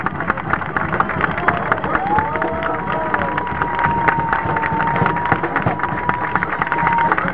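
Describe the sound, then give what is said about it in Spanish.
A crowd of more than 20,000 people at a march in Neuquén claps steadily outdoors, applauding themselves, a dense wash of applause mixed with murmuring voices, while a thin, sustained whistle-like tone drifts above the noise. “Varios me hacen el comentario de que hoy hemos sido mucho más que los años anteriores, así que nos brindamos un aplauso a nosotros mismos por haber sido más de 20.000 personas en Neuquén.”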